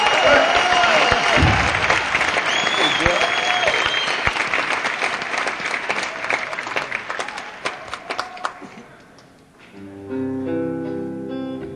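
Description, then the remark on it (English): A crowd bursts into loud, sustained applause with scattered whoops and cheers for a returning bass player, the clapping thinning out toward the end as a few sustained musical tones begin. “a special round of applause for, he's only joined us recently again, but an old friend.”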